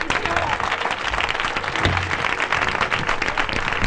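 Sustained applause from a large audience at the end of a festa major opening speech (pregó) in L'Espluga, a dense, steady wash of many hands clapping at once with no pauses, fairly loud.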